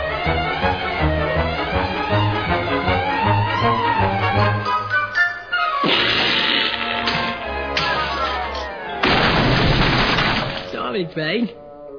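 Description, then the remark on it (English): A voice talks at first, then two loud, crashing explosive blasts from a UFO crash-landing burst out a few seconds apart, each a rough, noisy roar that cuts off abruptly. “There should be a great explosion.”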